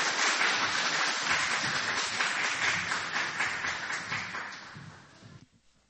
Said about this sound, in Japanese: 拍手を持ってもう一度。